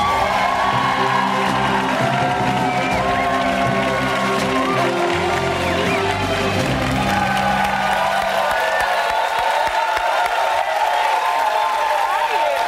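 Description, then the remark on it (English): A lively show audience cheers, whoops and shouts continuously as author Eve Ewing is welcomed, someone shouting "Chi-town", with scattered applause underneath and a dense, loud wash of voices that tapers slightly toward the end. “Chi-town? Is that what you shouted?”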